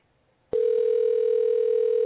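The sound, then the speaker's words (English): A phone line clicks open as a caller is put through on a call, and a steady, loud dial tone hums without a break, a single sustained pitch with faint harmonics above it, after a brief moment of near silence. “And while we there, might as well give my man on the phone here so we can talk alcoholism”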